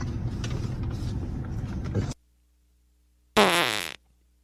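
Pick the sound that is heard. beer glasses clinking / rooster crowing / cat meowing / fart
fart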